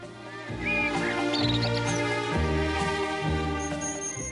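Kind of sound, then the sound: bird, birds singing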